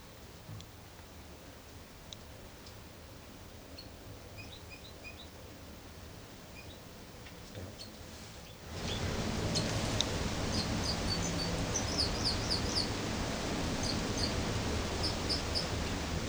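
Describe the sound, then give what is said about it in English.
A bird, recording number 273, sings repeated clusters of short, high chirps and trills over a steady background hiss that abruptly grows louder partway through, with no talking. “273 here in song.”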